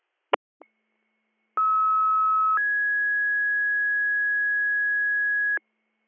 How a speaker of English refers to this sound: Department 25 for a tanker to the secondary fire, 1448, stand by for tones.